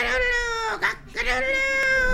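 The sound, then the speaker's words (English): A rooster screeches loudly, a harsh, strained cry that holds steady, breaks off briefly, then resumes for another drawn-out stretch. “The cock swooped down, screeching.”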